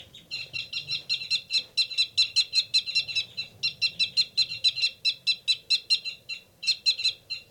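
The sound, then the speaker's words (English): Caged birds 273 and 274 call in a loud, rapid, repeated burst of sharp high-pitched chirps that pulse steadily for several seconds with only brief gaps, a noisy agitated commotion with no talking; the loud, rapid calls are a male's fight calls. “Recording, there's a big commotion going on in 273 and 274's cage.”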